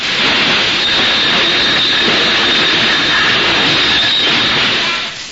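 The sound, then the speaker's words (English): A train rolls past on railroad tracks in a railroad yard, a loud, steady roar of wheels on rails with a thin metallic squeal riding on top, easing off only in the final moment. “Now be careful, Kelowna. There's a train coming.”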